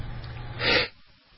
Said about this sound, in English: I had to hit the sneeze button. I'm sorry.